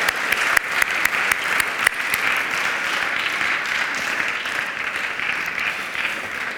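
A crowd applauds steadily and loudly, a dense wash of many clapping hands with sharper individual claps popping out early on, sustained without pause and with no voices.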